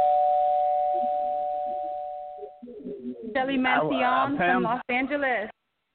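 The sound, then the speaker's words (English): A steady two-pitch phone keypad tone from a caller pressing 1 to get on the line of a call-in show holds for about two and a half seconds, fading slightly, then stops as a person begins talking. “if you're on the line, press 1 on your dial tone.”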